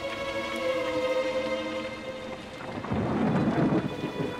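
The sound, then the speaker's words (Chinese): A heavy storm roars with dense, steady rain and gusting wind on a river, swelling louder partway through, while the low, even motor drone of a speedboat hums beneath the downpour. “船上的马达声夹杂在巨大的风雨中。”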